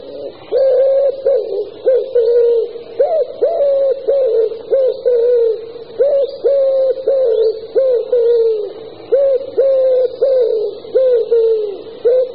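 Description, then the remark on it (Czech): A common wood pigeon coos in a steady series of soft, hollow, repeated phrases, each rising and falling in a regular rhythm, with no other sounds or voices. “Holub hřivnáč.”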